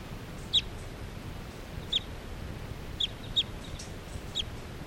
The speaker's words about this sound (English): That one wild bird that was just calling came back in. This is still 378 calling.